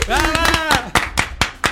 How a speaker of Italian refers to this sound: Applauso!